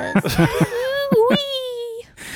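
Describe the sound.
A voice whimpers and cries, with a few short sobbing catches followed by a long, high, wavering whine that fades out after about two seconds.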